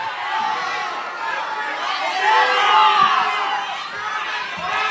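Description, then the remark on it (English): An audience of many voices shouts out suggestions over one another at once, a loud, dense wall of overlapping yells that swells slightly in the middle and stays energetic throughout. “I think I maybe heard somebody yell Dan.”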